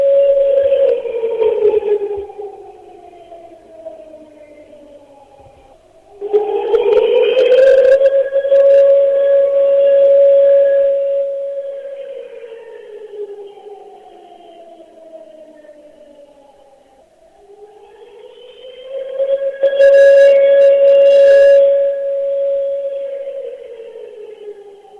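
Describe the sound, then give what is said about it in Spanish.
A loud memorial siren wails on its own, marking 25 years since the bomb attack on the AMIA headquarters, rising sharply in pitch, holding, then sliding slowly down, repeating in long mournful cycles over about twenty-five seconds, with no voices. “Escuchamos la sirena a 25 años del atentado contra la sede de la”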